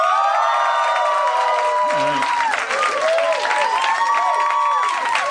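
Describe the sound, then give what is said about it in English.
A crowd cheers loudly and steadily for about five seconds, voting by cheering that a man should not drink so the experiment continues, with whoops, shouts and high excited voices layered over applause-like noise. “How many, by cheering, how many of you out there wish he wouldn't drink to continue the experiment?”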